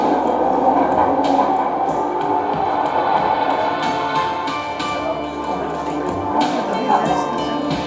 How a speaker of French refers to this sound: Et nous reprenons le métro. Alors dans le métro, énormément de galeries marchandes.